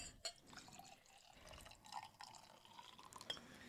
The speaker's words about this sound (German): Trotzdem habe ich die gerade geöffnet, ein schöner Brü. Und da gieße ich direkt mal ein.